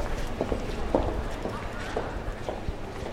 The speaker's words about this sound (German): Eine scheinbar schwere Reisetasche erklimmt mit großen Schritten die Treppe.